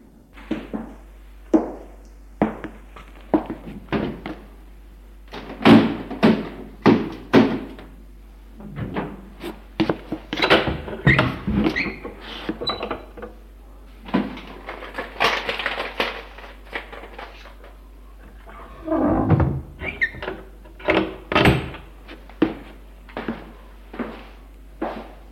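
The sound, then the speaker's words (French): Refrigerator and cupboard doors are opened carefully and quietly in a kitchen. A long irregular series of wooden clunks, knocks and rattles mixes with rustling and rubbing, with some louder bursts in the middle and no talking. “Et là, en silence, ouvre les réfrigérateurs et placards.”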